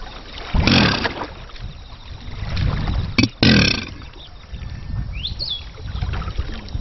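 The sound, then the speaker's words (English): A male Chinese alligator at a breeding center near Shuangcheng bellows twice to attract a mate during courtship, each a short, deep, rough rumble with a throaty burst, separated by a pause, over a steady low watery background noise. “The males bellow to attract a mate.”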